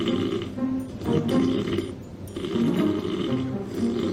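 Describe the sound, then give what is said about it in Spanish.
Loud, rasping snores from a man, a reality-show contestant asleep at night in the show's house, repeating in slow, heavy cycles with guttural, rumbling breaths, continuous with no talking. “Escuchemos los ronquidos a ver si sois capaces de adivinar quién puede ser este ser.”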